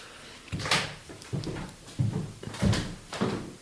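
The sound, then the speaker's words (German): A drawer is pulled open and pushed shut to fetch incense, giving a series of five short wooden scrapes and thuds at a steady pace with no one speaking. “Hast du noch Räucherwerk, was wir aus der Schublade ziehen können? Ja, habe ich. Ich hole was.”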